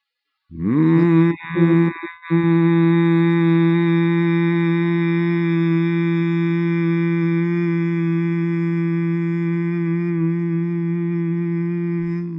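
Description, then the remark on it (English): Several voices hum together on different steady pitches, one low and one higher, holding a continuous drone for about ten seconds after a brief wavering start and a couple of quick breaks. “And you don't have to match my pitch, just hum in a comfortable part.”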